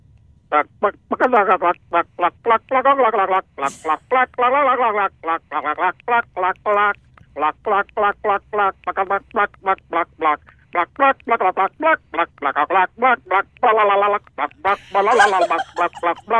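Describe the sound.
A person gobbles like a turkey through a Christmas classic, a rapid, warbling string of voiced bursts that follows the song's melody and runs without pause for about sixteen seconds, loud and steady.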